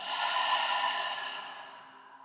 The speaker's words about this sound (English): Breathing in and out.